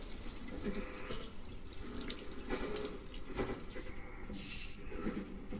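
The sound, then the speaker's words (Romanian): Pearls of water roll over skin, trickling and splashing steadily, with brief brighter drips and spatters scattered through a continuous wet, running sound. No voices. “Perle de apă se rostogolesc pe piele.”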